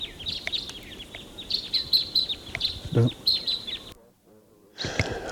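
bird, male crossbill singing

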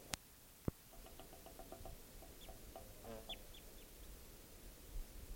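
bird, wild bird calls

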